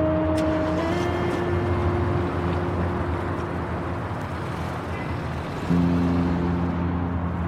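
A car engine rumbles steadily with a low droning hum that holds at a constant level, shifting pitch slightly near the end, as a man gets into his car and drives away; no voices.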